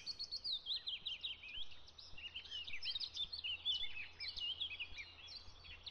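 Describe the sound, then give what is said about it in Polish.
Busy, overlapping bird calls and chirps from tits and magpies at a garden bird bath fill the scene, a steady stream of bright, quick notes at moderate volume with no talking. “No i działa, bo pierwsze ptaki już następnego dnia przy tym poidełku widziałem. Były to sikory i też sroki, co też cieszy.”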